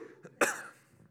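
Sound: cough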